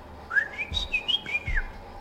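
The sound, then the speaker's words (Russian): A person practising a whistled language in a ship's cabin whistles a quick run of sliding, rising and falling notes, like whistled speech, lasting about two seconds with no talking. “Я изучаю язык свиста.”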